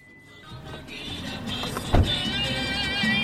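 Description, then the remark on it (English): A car's engine hums steadily from inside the vehicle while driving in Cuba, with a low rumbling drone, a mechanical whine, and a single dull thump partway through. No one speaks. “Driving has long been a luxury in Cuba, where most can't afford or obtain a car.”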